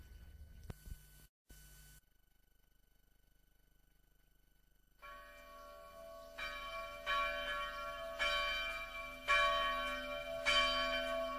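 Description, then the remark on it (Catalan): The church bells of the cathedral of Girona ring out loudly after a brief near-silence, with repeated resonant strikes overlapping in a rich, sustained peal that builds and rings on continuously. “a la sintonia de la veu del campanar, avui dedicat al campanar de la catedral de Girona”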